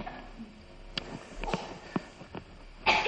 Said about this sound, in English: Well, good morning, everybody. Oh, we're all coughing. You haven't been to China, I hope. So, I was going to say, how are you? But I kind of know, you're all coughing.